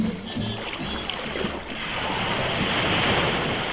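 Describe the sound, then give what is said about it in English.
Steady wash of waves and surf in the Irish Sea as swimmers enter the water, a broad continuous rush with some wind buffeting the microphone and faint splashing near the start. “Right, we're in the water.”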